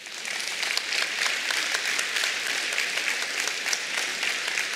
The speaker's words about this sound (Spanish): ¿No es para dar un aplauso esto al Señor?